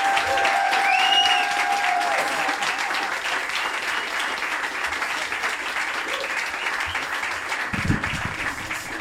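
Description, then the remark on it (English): A crowd applauds steadily as Kevin McDonald is introduced, dense clapping spread across the full stretch at a fairly loud, even level, with a few whistles near the start and scattered shouts. “So, ladies and gentlemen, please give a warm, egomaniacal round of applause for Kevin McDonald, the egomaniac.”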